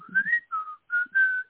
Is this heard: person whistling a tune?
yes